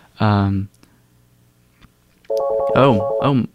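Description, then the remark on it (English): A cell phone rings for an incoming call from a New York cell phone with a 516 number, using an electronic ringtone: one short buzzy tone, a pause, then a longer melodic phrase of bright, rising and falling notes, fairly loud, with no talking. “It's a New York City, it's a New York cell phone. It's a 516 number.”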